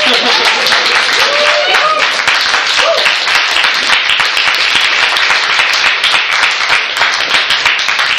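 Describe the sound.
Sustained crowd applause, a dense, steady wash of many hands clapping for about eight seconds, loud and even throughout, with a few faint voices and cheers mixed in.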